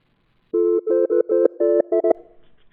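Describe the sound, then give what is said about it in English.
A telephone rings with a loud electronic ringtone: a quick run of about eight buzzy, melodic beeps at slightly shifting pitches, then it cuts off into a faint trailing hiss. “Answer the phone. Answer the phone.”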